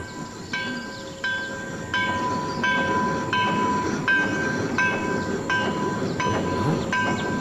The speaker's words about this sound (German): Als wir den Ort erreichten, schlossen sich vor dem Bahndamm gerade die Schranken. So standen wir da und beobachteten den herannahenden Zug.